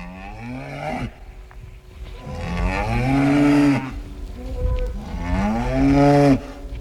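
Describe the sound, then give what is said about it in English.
Cows in a cow barn moo loudly during milking, three long, drawn-out calls one after another, with a steady low hum in the background and no voices. “Milking is going on in the cow barn.”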